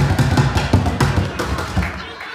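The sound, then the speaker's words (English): Sticks drum rapidly on upside-down plastic pails, a busy, steady rhythm of hollow thumps and sharp clacks, fairly loud, trailing off at the end. “He's the guy who bangs on upside-down plastic pails.”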